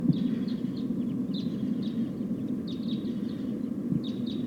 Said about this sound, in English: It sounds like a flock of type 2 crossbills is flying over. About five or six birds.